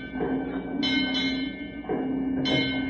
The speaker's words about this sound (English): Hot ziggity. It's only 5 bells. Now, I'll just set my watch and we'll be out of here.